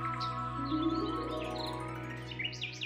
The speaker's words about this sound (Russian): Чик-чирик! Прилетел воробей.